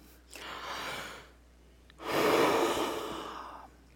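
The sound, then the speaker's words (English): A voice acts out a yawn: a breathy inhale, a short pause, then a longer, louder drawn-out exhale, clear with no talking. “Let's suppose you yawned.”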